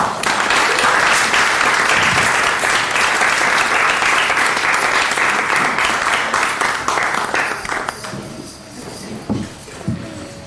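An audience bursts into loud, sustained applause, a dense wash of many hands clapping that holds steady for about eight seconds before thinning out and fading to a few scattered claps.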